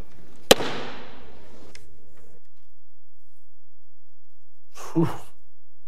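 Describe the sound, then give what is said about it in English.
A single hard gavel bang, struck by the chair of the House in Congress to declare a recess, cracks out sharply and rings away over a couple of seconds, followed by a faint tick and, later, a brief muffled thump. No one speaks. “I want you to watch something, and I want you to watch how angry he is as he gavels this out.”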